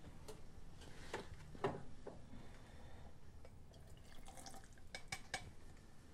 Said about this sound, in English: He now grabs the measuring spoon and carefully fills it with water to the line, dumping it into the glass.